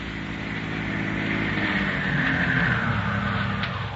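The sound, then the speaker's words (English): An automobile engine starting off from a ranch drones steadily, its low rumble growing a little louder as it approaches, then holding steady; no voices are heard. “A tense couple of hours pass, and then they hear an automobile start from the ranch.”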